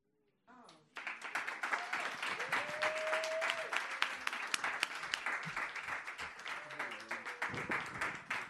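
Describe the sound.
Sustained applause from a crowd after a quiet start, dense clapping holding steady for several seconds, with faint voices and a brief whistle mixed in.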